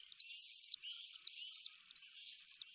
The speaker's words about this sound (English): The enthusiasm stretches from the red-breasted robins whose image adorns Christmas cards, to the fighter jet-like swifts whose screams herald the start of summer.